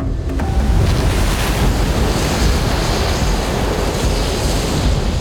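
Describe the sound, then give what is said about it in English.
A loud, continuous roar of seawater gushing into a throne room churns with a deep low rumble of storm clouds and a windy hiss, holding steady throughout with no voices. “The clouds began to rumble, and a mighty gush of seawater spilled into the throne room.”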